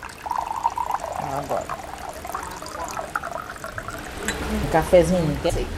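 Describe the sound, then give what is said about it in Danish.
Sweet coffee and fresh water pour steadily into a cup or glass, a gurgling stream with a faintly rising pitch, while voices murmur in the background. “Maria kommer ud med dejlig sød kaffe og frisk vand.”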